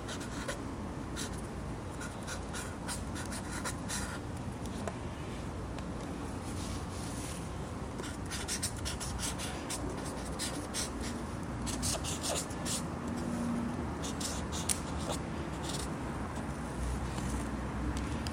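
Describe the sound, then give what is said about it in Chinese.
A pen scratches steadily across paper in continuous strokes as a grandfather writes with a black pen, with brief bursts of faster scribbling and a faint hum of room noise underneath throughout. “哎，你看公公写得挺靓。”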